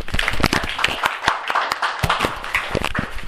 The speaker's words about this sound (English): Yes, give him a clap.